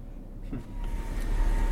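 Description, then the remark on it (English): A car idles and creeps forward slowly toward school gates, a low steady engine rumble with a faint mechanical whir rising briefly, no voices. “car inches forward to the school gates.”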